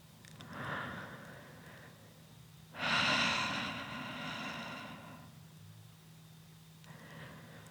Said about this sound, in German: Atmet hörbar, damit ihr sehr genau spürt, dass ihr nicht allein seid.